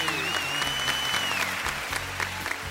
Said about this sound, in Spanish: este aplauso es para vos. ¿Dónde te van a anunciar así?